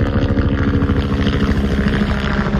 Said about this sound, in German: Ja, mit dem Hubschrauber eingeflogen